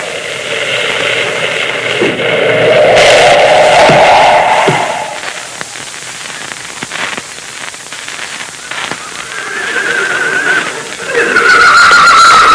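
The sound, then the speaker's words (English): A horse named Rainbow neighs loudly and shrilly near the start, at the snowy base of a mountain, its whinny rising and falling, then a second, higher whinny rings out near the end over a steady rushing background. “Moccasin's horse, Rainbow, stopped at this spot.”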